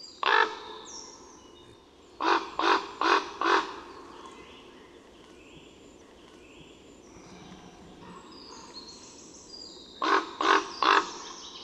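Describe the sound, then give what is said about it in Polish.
Deep, harsh croaking calls of a large corvid, lower and more menacing than a crow or rook: one call, a rapid series of four, then three more after a quiet stretch, clear. “Nie jest to krakanie wrony, gawrona, tylko to głos dużo niższy i groźniejszy.”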